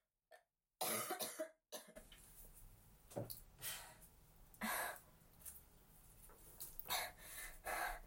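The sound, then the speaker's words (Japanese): A coughing fit: several harsh, loud coughs burst out in an irregular series, separated by breathy gasps, with no talking. “咳込んじゃってごめんなさい。”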